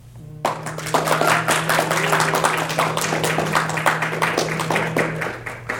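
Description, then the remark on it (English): A crowd claps on a count of three, at a steady, moderate level for about five seconds, an even patter of many hands without much build or swell, then it stops abruptly. “It's a very British clap.”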